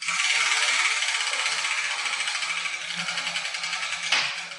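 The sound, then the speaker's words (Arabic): Balls clatter and rattle steadily inside a turning letter wheel, a dense, bright churning noise, then one sharp knock near the end as a ball marked with the Arabic letter Haa drops out. No one speaks. “هذه الكرة سقطت من الدولاب يا جدتي، أي حرف كتب عليها؟”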